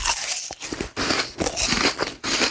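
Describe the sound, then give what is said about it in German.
Loud crunching of someone biting into and chewing an apple, with several wet, crackling bites in quick, uneven succession and no voices. “Ständiges Räuspern, Stöhnen bei jedem Bücken und dieses unerträglich laute Schmatzen, wenn er seinen Apfel isst.”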